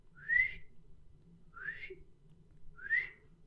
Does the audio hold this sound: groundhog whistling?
yes